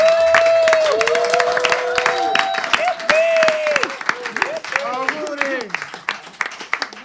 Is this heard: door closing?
no